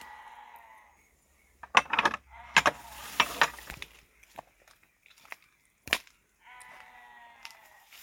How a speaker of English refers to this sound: And there's only one thing that can mean in the background. Yep, sheep.